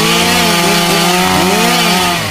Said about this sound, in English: Oh, hold on, I can barely hear you over the chainsaw. One second.